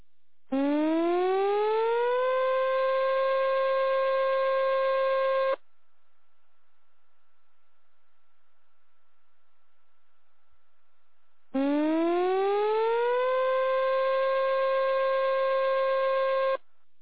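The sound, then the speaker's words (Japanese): A Mihama town disaster-prevention civil defense siren for a tsunami warning sounds two long, loud blasts, each rising in pitch and then holding steady for a few seconds, separated by several seconds of silence. “津波警報が発表されました。”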